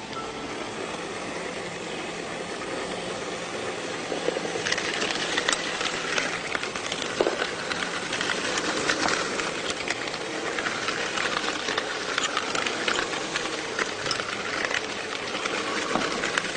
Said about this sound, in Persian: من جا از پنیر ماسکارپونه استفاده کردم. شما دوستان میتونین هم از این پنیر استفاده بکنین یا اگر مایل بودین از انواع پنیرهای خامه‌ای میتونین استفاده بکنین. یک کمی پنیر رو با همزن میزنم تا بافتش صاف و یک دست بشه و بعد شکر رو بهش اضافه میکنم.